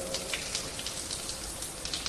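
Steady hiss of water spraying from a simple pull-chain bathhouse shower of one temperature and pattering onto a hard surface, a dense even wash of noise with scattered brighter splashes, continuous throughout and moderately loud, no voices.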